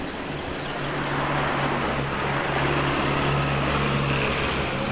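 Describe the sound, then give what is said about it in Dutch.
A tank rolls along the Roze Gracht with a strange flag on top, with a steady, heavy engine drone, low humming tones under a broad rushing clatter, holding at a constant loud level for the whole stretch with no voices. “Oh, luister dames en heren, er komt een tank aan.”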